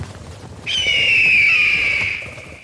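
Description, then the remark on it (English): A single long, piercing screech of an eagle soaring through the sky rings out loud, holding a high shrill tone for over a second before gradually trailing off, with no talking. “what I really like is the sound of an eagle soaring through the sky”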